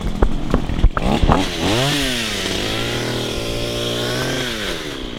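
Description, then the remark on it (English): A chainsaw sputters through a few short bursts, then revs up into a loud, steady buzzing drone that holds for several seconds with slight shifts in pitch, with no voices, cutting through trees and brush along a trail at Lake Fayetteville on a cloudy morning. “If you walk the trail at Lake Fayetteville on a cloudy morning late last month, maybe you heard the sounds of a chainsaw through the trees and brush.”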